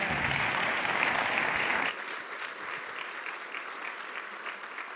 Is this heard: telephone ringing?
no